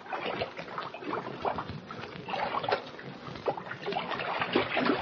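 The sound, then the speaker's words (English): Cold water splashes and sloshes steadily at the bottom of a deep, old abandoned well about 40 feet deep, a busy, continuous churning with small irregular bursts throughout and no voices. “The cold water at the bottom of the deep well has revived them.”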